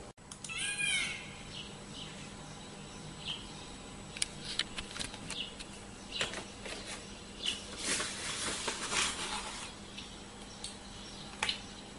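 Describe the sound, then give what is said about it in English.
Quiet outdoor morning ambience with scattered birds singing: a quick run of sweeping, whistled notes near the start, then irregular short chirps and clicks, with no talking. “Any morning, birds sing.”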